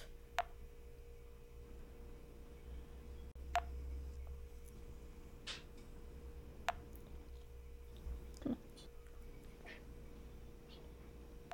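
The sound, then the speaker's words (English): Short, high electronic beeps from an Apple Watch that is shutting down sound one at a time at uneven intervals, about six in all, faint over a steady low hum with no one speaking. “I thought she was about to start talking and then it kept beeping. I was like, what? No, that was my Apple Watch.”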